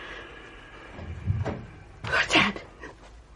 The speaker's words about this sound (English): Door downstairs. Someone's in the house.